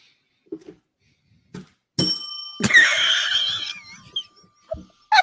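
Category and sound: bell being rung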